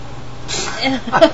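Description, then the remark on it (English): A person fakes a single sneeze, "Hachoo!", covering the mouth with the palm of the hand: a breathy intake rising into a sharp, voiced "choo" burst, delivered as a deliberate vocal imitation rather than a real sneeze. “Yeah, put some, like, in the palm of your hand and go, like, to cover your mouth and go, "Hachoo!"”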